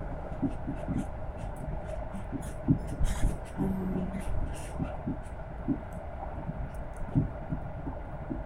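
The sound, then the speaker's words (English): A steady low rumble and hum fills the space, broken by irregular soft thumps and clacks, like riding inside a moving, fairly full passenger train car with no one speaking. “The train is kind of full, so I can't do much else other than talk.”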